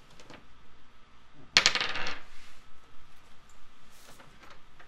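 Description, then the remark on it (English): Dice land on a table with a sharp clatter and rattle briefly before settling, followed by a few faint ticks against a quiet background. No one speaks. “My dice hate me tonight.”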